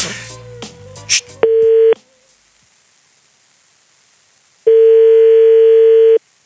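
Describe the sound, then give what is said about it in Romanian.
After a brief jumble of keypad-like beeps, a steady mid-pitched telephone ringback tone sounds twice on an outgoing call to a car dealership, each long tone lasting about half a second to a second and a half, separated by a silent gap. “Hai, sună.”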